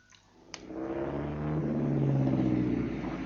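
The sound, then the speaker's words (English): A Daimler car engine starts with a sharp click, then its low rumble builds and revs up into a steady, rising drone, fairly loud, with no voices. “And so I found myself in a mighty Daimler with a forged Frontier pass in my pocket.”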